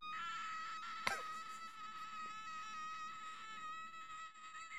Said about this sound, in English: Is that her screaming or is that a goose? That's her.